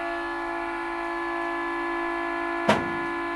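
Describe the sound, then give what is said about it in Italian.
A boat's long whistle blares as the boat departs, one unbroken, steady horn tone, rich and buzzing, holding for several seconds, with a single sharp knock sounding near the end. “Che fischio lungo.”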